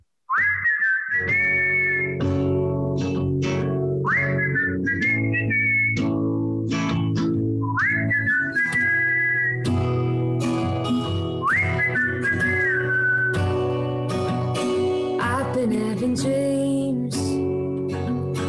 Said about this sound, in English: I'm going to warm up the whistle. I haven't whistled in a little while.